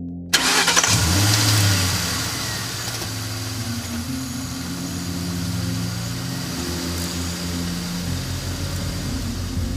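car engine starting

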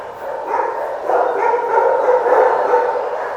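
dogs barking in kennels

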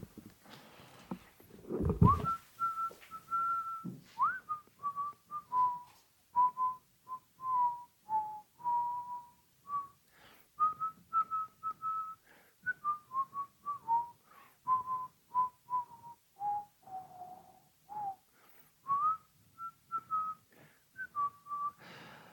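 person whistling a tune

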